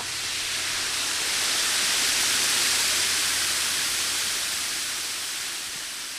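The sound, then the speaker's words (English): A steady, dense roar of water cascading about 100 feet down the spillway of an immense hand-cut stone dam at a lake, built in the 1940s by the Civilian Conservation Corps, into a ravine in a park in Eureka Springs; loud and continuous, swelling slightly in the middle, with a faint low rumble underneath and no voices. “You can walk across the top of it to watch the sparkling water cascade 100 feet down into a ravine far below.”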